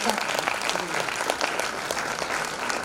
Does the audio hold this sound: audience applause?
yes